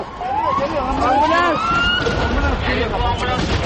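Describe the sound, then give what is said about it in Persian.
An ambulance siren wails loudly with sliding, rising tones over a dense, noisy crowd of protesters during clashes between police and protesters in Istanbul, Turkey, with overlapping voices and shouts continuing underneath throughout. “آمبولانس!”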